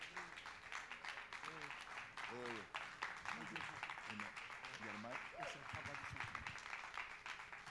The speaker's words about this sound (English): As a matter of fact, we got a guest speaker tonight. Why don't we just go ahead and stand on our feet or clap our hands, and let's welcome